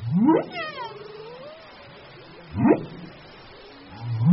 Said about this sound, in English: And the amount of song overlap between the whales that breed off of Gabon in the Atlantic and those that breed near Madagascar in the Indian Ocean varies year to year.